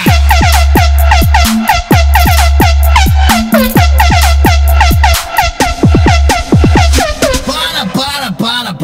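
A Volvo truck's air horn blasts loudly and continuously, sounding a rhythmic run of pitched, sliding tones over a heavy low rumble, growing rougher and more warbling near the end.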